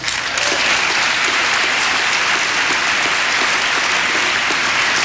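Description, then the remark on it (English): Sustained applause from a large crowd in Congress during a speech, a dense, steady wash of clapping that stays loud and even for the full five seconds with no voices breaking through. “This Congress did that, and I applaud you for it.”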